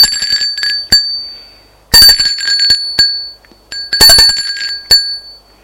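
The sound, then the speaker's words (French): A doorbell rings repeatedly in bright, metallic bursts, some struck singly and others in quick rapid clusters, loud with ringing tones that decay between strikes. No voices are present. “la sonnette de la porte a retenti.”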